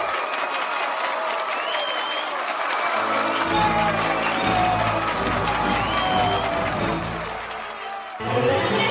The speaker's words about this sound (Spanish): La sala entera respira cada vez más rápido y finalmente le otorga una ovación tan frenética como desaforada.